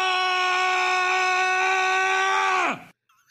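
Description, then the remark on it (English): A man lets out a long, loud, anguished scream, holding one strained pitch for nearly three seconds before it slides sharply downward and breaks off into silence. “That is a fantastic scream.”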